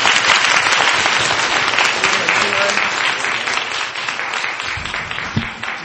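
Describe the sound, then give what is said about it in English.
An audience claps for the presenters at the close of a session, steadily for several seconds, a dense, loud wash of many hands that stays even throughout and tapers only slightly toward the end. “And I think we should give our presenters a big round of applause.”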